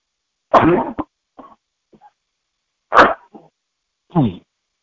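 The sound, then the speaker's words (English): Three sharp, explosive sneezes burst out one after another with short pauses between, each loud and breathy with a harsh rush of air and a few small sniffs in between. “Bless you.”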